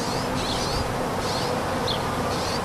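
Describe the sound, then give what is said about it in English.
A steady, dense drone of honeybees buzzing fills the whole stretch without pause, while a few short, high bird chirps flicker faintly above it, in unpaved corners of a city in the Bay Area where urban farmers tend seedlings. No one speaks. “But the sounds of traffic don't deter the birds and honeybees or urban farmers who plant and tend their seedlings in unpaved corners of the cityscape.”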